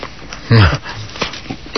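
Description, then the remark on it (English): A small dachshund snuffles, its breathing a soft, rumbling purr, broken by one brief, louder whiny vocal note that slides downward early on. “He's purring. The wiener dog?”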